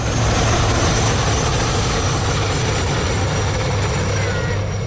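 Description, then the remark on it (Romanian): A propeller airplane drones steadily at the town aerodrome in Târgu Mureș, Romania, during a Children's Day open day with flying demonstrations; its engine hum is loud and continuous, with a low throbbing tone and broad rushing noise that hardly changes throughout. “Mașinile zburătoare i-au fascinat pe copii, dar și pe adulți.”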